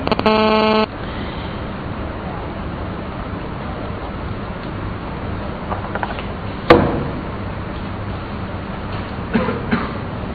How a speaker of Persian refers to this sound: آیا من این حواس من پرت کرد، این تلفنه هر ساعتی داشت میخواد زنگ بزن.